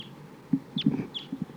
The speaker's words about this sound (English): A lot of crossbills here flying around, including one that sounds like a type 2 bird. Pointing at the flock.